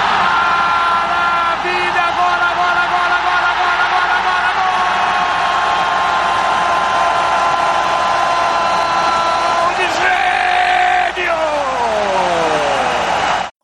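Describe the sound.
A large crowd of Flamengo supporters sings a mocking chant about player Nenê being sent off five minutes after coming on. The sustained, droning chant holds steady and loud throughout, its massed voices blending into a continuous roar before the pitch slides downward near the end.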